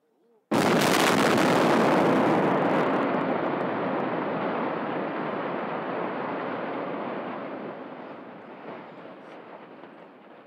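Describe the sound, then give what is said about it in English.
A building implosion of a huge structure at a mill, set off by an implosion crew: one sudden, loud demolition blast, then a long roaring, crackling rumble of collapse that slowly fades over about ten seconds. “An implosion crew far down below had already sounded the one-minute warning with an air horn.”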